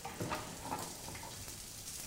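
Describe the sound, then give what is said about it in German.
Guanciale and garlic sizzle steadily in a hot pan as the rest of the guanciale and the garlic are added, a continuous crackling hiss with a few brief stirring bumps near the start, moderately quiet, with no voices. “Wie man hört, die Pfanne ist jetzt auf Temperatur, deswegen gebe ich da jetzt auch mal den Rest dazu.”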